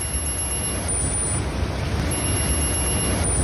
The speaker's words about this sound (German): Und es funktioniert so, dass Bewegungsmuster oder auch plötzliche Bewegungslosigkeit als mögliche Gefahr erkannt wird und per Alarmsignal auf eine Smartwatch an den Mitarbeiter kommuniziert wird. Und dieser Alarm klingt dann so.